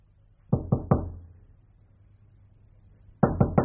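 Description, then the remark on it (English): Two sets of three firm knocks on a wooden hotel room door at Bentley's private hotel, just off the Strand in London, at night, evenly paced and separated by a few seconds of quiet. “The door's open, you know.”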